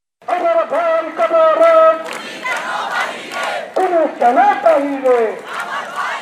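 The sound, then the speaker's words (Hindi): A crowd of students protesting in Dhaka, Bangladesh, against the beating to death of a fellow student, shouts in unison, loud rhythmic chanted slogans rising and falling in bursts, with many voices overlapping in a raw, continuous protest roar. “ये आवाजें हैं बांग्लादेश की राजधानी ढाका में विरोध प्रदर्शन कर रहे छात्रों की, जो अपने जैसे ही एक छात्र की पीट पीट कर हत्या किए जाने के खिलाफ सड़कों पर उतरे हैं।”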